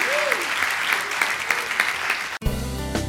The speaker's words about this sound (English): Now, would you tell the Lord you love him and give him a big hand clap this morning?